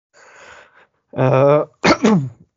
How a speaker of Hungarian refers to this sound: Egészségedre.